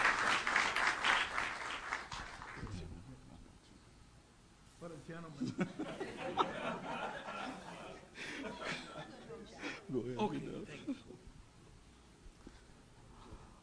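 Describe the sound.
A burst of audience applause, a dense, loud wash of many hands clapping for about three seconds, fades out before a single voice begins talking.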